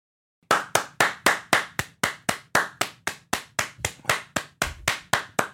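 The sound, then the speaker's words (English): Hands clap sharply about twenty times in a quick, steady rhythm, roughly four claps a second, each a crisp, bright slap at even loudness. No one speaks. “What, clapping at the start?”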